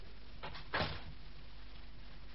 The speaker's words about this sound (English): Close the door.